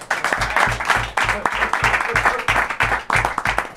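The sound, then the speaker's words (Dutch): A crowd applauds steadily and loudly, a dense wash of many hands clapping, with a regular low thumping beat pulsing underneath throughout. “Jongens, applaus!”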